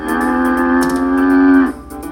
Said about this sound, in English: Is a cow.